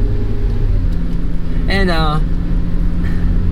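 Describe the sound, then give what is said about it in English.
A car drones loudly and steadily, a constant low engine and road rumble, with a brief wavering, voice-like tone rising over it midway. “Ugh, gosh, stupid car.”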